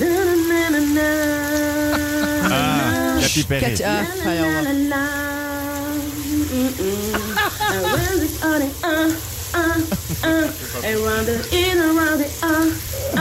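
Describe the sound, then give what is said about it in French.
A steady hiss of running shower water fills the background while a woman in the shower sings loudly over it, around 7 pm in the evening, the spray continuing throughout. “était sous la douche et elle chantait ça”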